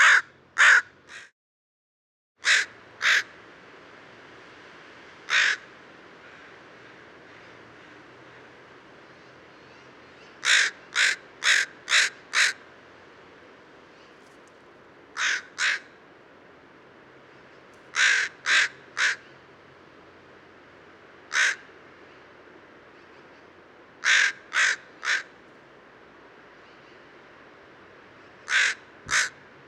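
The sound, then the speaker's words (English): A crow caws loudly in short bursts of two to four harsh calls, spaced irregularly over half a minute, with fainter answering caws from another crow farther away and no talking. “And this gun's the same bird as the last fowl. There's another one in the distance.”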